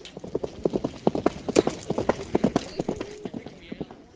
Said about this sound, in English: Cotter turns her horse onto the track and gallops toward the first arch